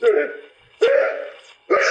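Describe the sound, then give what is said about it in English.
Three fairly loud sneezes in quick succession, each a sharp burst that trails off before the next, with no talking in between. “Bless you.”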